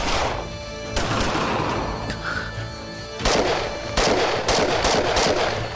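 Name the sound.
gunfire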